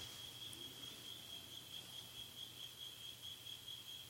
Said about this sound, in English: The noise of the crickets, they can do their own thing.